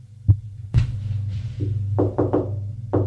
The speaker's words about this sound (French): On a frappé à la porte.